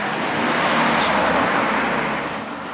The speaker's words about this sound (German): halt, bleib stehen, ein Auto kommt.